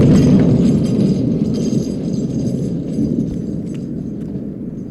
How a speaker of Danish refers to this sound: Det lyden af hestenes hove og hjulene skramlen over brostenene.